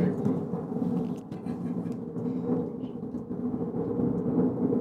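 airplane flying overhead

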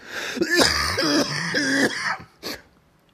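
coughing

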